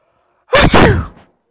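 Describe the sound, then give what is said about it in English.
A single loud sneeze bursts out sharply, a breathy explosive burst that trails off quickly into silence, with no talking around it. “Sneezing tells us that we are sick, doesn't it?”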